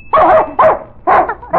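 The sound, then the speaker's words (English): A dog, Jake, barks loudly three times in quick, evenly spaced succession after a bell is rung, expecting candy, with the start of a fourth bark cut off at the end; no one speaks. “Every time he hears the bell, he knows that he's going to get candy. And he barks till he gets it.”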